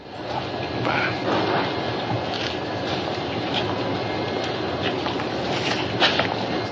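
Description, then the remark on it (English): A steady, fairly loud wash of railway ambience from a train at a station in the small southern town of Sparta, Mississippi, as a man boards it to go home: a constant rumbling hiss with faint scattered clatters and no clear voices. “After the crime is solved, Gillespie walks with Tibbs as he boards a train home.”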